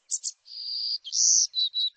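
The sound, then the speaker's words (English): A forest songbird of the Americas sings a high, thin phrase alone: two quick notes, then a long, drawn-out buzzy note, followed by shorter whistled notes, heard clear. “Now, this special songbird's future depends on people stepping up to protect our forests, from Nicaragua to Texas.”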